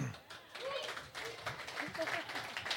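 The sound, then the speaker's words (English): A steady wash of crowd applause, dense clapping with cheering voices mixed in, holding at an even, moderate loudness for about three seconds. “Another applause-worthy response.”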